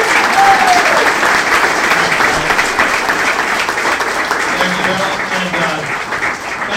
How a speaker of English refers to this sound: Seriously, just a huge round of applause to the St. Louis Lilligans. Thank you guys for all you do.